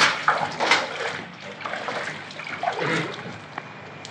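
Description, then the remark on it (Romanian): Water sloshes and splashes in short bursts as an old long-necked glass rum bottle is rinsed, with gurgling and dribbling between the louder swishes, no voices. “Iată sticla! Bine! Spălați-o numai decât.”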